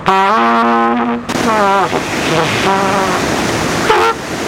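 A trumpet, played by Larry Ferguson of Advanced Pump and Well Solutions in Richland Center to prime a water pump, plays loudly: a long sustained brassy note, then a run of shorter notes that rise and fall in pitch, over a steady rushing noise.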